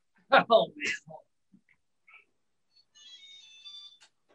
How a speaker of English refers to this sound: I don't know if you could hear that, but that was my robot vacuum. Well, I hope the robot's okay.